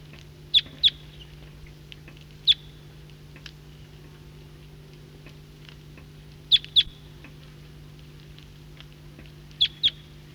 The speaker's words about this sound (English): Flock of the same call type is coming in from the east. Recording this flock is getting restless and calling.